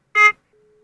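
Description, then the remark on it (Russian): A telephone busy tone after dialing a number: one short, loud, buzzy beep lasting about a fifth of a second, followed by a faint, steady, mid-pitched tone that continues to the end. No one speaks. “Вы слышали, какой гудок?”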